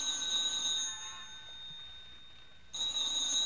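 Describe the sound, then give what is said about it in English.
A telephone rings with a bright, shrill electric bell tone: one long ring that fades out, a short pause, then a second ring starting up. No voices are heard. “Answer it, Tommy. Oh, look, what difference is a phone call now?”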